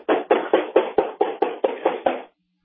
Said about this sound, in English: He's knocking on the door. He's knocking on the back door now. He's at my back door. You're not going to answer either door. I'm not answering the door. He's at my back door.